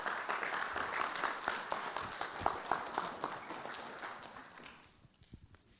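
An audience at a church service applauds together to welcome the preacher to the pulpit before the sermon, a dense, steady patter of many hands clapping for about five seconds before thinning out and fading to a few scattered claps.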